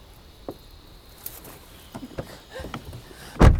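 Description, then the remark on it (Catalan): A few soft clicks and rustles lead up to a single heavy, solid thump as a woman sitting in a car shuts its door near the end, with no talking. “La dona tanca la porta i plora.”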